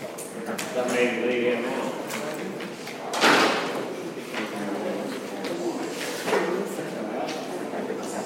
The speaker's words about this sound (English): Shut that door behind you, would you